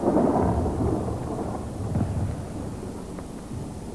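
Deep, rolling booms of German Panzer tank explosions rumble continuously on the horizon at night, a heavy low roar with soft swells and no clear gaps.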